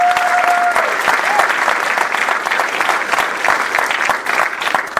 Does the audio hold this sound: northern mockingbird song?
no